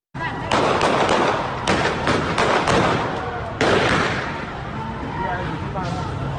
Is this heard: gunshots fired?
yes